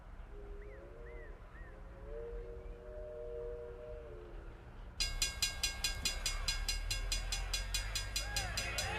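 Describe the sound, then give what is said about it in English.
A train passes by. Halfway through, loud rhythmic clacking starts suddenly over a heavy rumble. Before that come softer wavering tones over a low hum. “Must be a train coming around here.”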